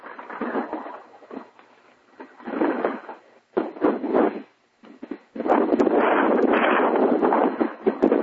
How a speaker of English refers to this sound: Now we hear the ocean.